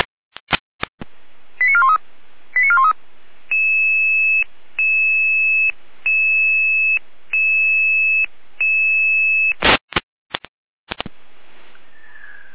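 Dispatch radio paging alert tones from the Jena dispatch centre, sounding an emergency call-out: a few squelch clicks and quick chirping tone bursts, then six steady, evenly spaced electronic tones, ending with more sharp radio clicks. No one speaks.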